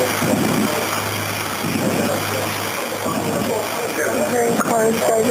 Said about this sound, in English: Do you hear a lot of movement outside? Like, yeah, I hear cars just driving back and forth. But you can't see outside? Uh-uh. Does it sound like they're speeding? Yeah.